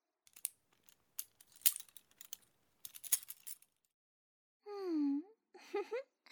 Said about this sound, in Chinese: 好了，这是你下面的钥匙，自己打开吧。